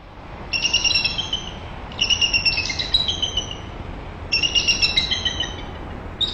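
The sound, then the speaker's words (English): Eagle calls from a nest, heard via a webcam, ring out in three bursts of rapid, high-pitched piping chirps, each a quick stuttering series, over a steady background hiss. “Via the webcam, Merrill and others get much closer than they can in person, watching run-ins with intruders and hearing the eagles' calls.”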